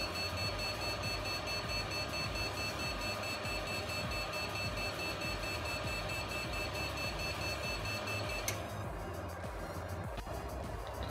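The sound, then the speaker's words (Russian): A computer with a BIOS error beeps as it tries to start up again after shutting off, a steady high-pitched electronic tone over a constant whirring hum. The tone cuts off abruptly near the end, leaving the hum. “Потом через некоторое время он опять пытается запуститься и пищит.”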